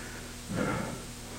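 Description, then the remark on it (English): A single deep, breathy exhale during a deep breathing exercise rises and fades within about half a second, fairly soft, over a low steady background hum with no talking. “Doing some deep breathing exercises here.”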